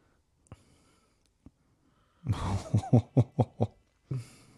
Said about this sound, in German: Und das auch dieses Geräusch, was wieder jetzt grunzt die ganze Zeit, ne? Wie so eine Dampflok.